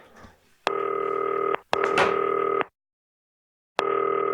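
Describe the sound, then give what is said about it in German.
A telephone ringing tone heard down the line during a FaceTime call to footballer Johannes Eggestein: steady, buzzy bursts of about a second each, repeating with short pauses and a longer gap before the next one starts, with no voices. “So, klingelt.”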